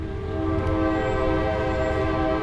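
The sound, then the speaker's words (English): A passing train on the railroad running through downtown Coshocton, Ohio, blasts its horn in one long, steady, loud tone over a continuous low rumble of rolling cars. No voices can be heard. “The railroad runs right through town.”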